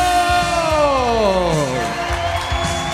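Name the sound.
audience applause and cheering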